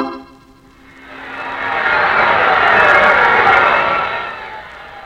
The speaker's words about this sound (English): Here in the garden, your ears are roaring with the big voice of the crowd as you leave the dressing room and head down the aisle for the ring. People, thousands of them, cheering you, booing you.